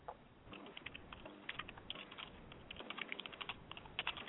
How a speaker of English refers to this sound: Sorry, you couldn't hear me typing, but it's fine.